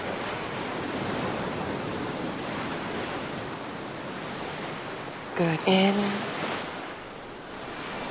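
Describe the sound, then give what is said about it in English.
A steady wash of ocean surf fills the scene, a broad, continuous roar of waves breaking on shore, with a soft voice briefly speaking over it near the middle. “Listen to the waves.”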